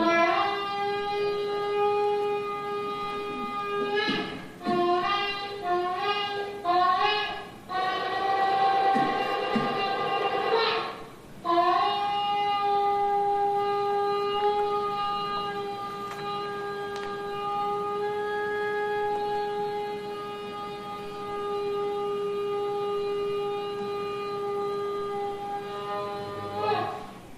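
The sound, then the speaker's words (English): A shofar sounds alone, as done for the new year: a few short, wavering blasts, then long, loud sustained notes with a rich, buzzy tone that bends slightly in pitch before fading. “The three short whale-like blasts, that's signifying repentance.”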